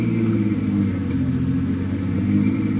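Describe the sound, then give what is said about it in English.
A small plane's engine turns over at an airport, idling with a steady, throbbing low drone, loud, holding an even pitch throughout with no voices. “There it is, the little one with the engine turning over.”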